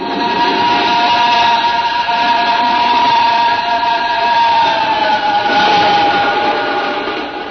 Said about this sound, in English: There for a long, breathless moment as the train roared off into the night, leaving only the singing rails to mark its passing.